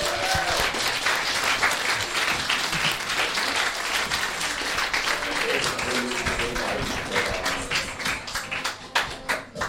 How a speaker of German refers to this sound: Und hier drin jetzt ganz laut. Und es geht weiter. Einen großen Applaus für den zweiten Teil der Gästeliste Geisterbahn.